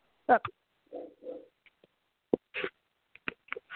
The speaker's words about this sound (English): I'm not sure who's got the dog, but if you're not talking, you might mute.